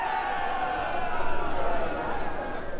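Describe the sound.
A crowd cheers in a steady, dense roar of many voices, swelling a little louder around the middle before settling back to a constant wash of noise.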